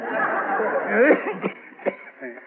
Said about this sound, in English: Say, that's a bad cough you got there. I don't like it. You don't like it? You don't hear me bragging about it, do you?